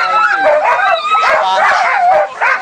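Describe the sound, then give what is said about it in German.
A loud, dense chorus of many sled dogs barking, yipping and whining together nonstop before a race start, nervously pulling at their lines, with overlapping high-pitched excited cries. “Das sind Hunde, Schlittenhunde vor dem Start. Die sind komplett nervös, die pumpen in den Seil.”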